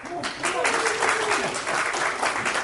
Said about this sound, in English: Everybody start cheering. Go.